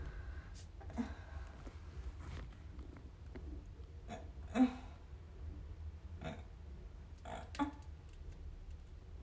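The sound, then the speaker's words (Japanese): A short, soft fart sounds against a steady low rumble, with a few other brief rustles and puffs scattered through the quiet background. “おならが出ちゃった。”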